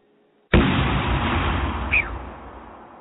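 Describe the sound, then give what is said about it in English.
A single loud TNT explosion bursts in abruptly after a moment of silence, followed by a heavy, rumbling roar that slowly fades over a few seconds. No voices are heard. “All listeners, please prepare for a TNT explosion.”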